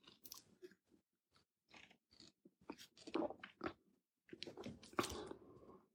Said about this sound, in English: So I take a drink of water.